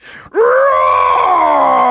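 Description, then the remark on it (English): Voices imitate a lion's roar together on a count of three: after a brief breathy sound, one long, loud, sustained growling roar fills the rest of the moment, steady without fading. “"Right," said Isaac, "this mouse thinks it's a lion. On the count of three, everybody roar."”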